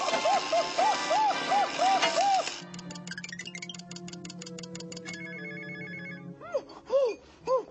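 A window alarm bell rings in a rapid, steady electric clatter for several seconds, framed by a burst of high, squeaky meeping vocal noises from Beaker before and after it.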